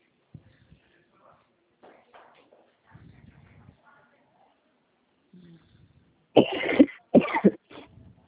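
coughing

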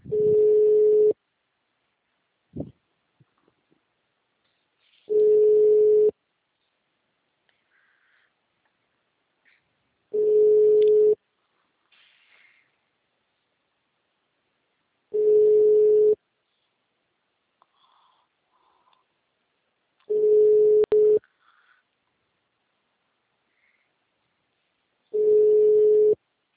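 telephone line tone

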